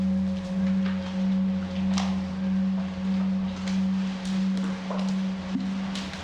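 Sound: gong being struck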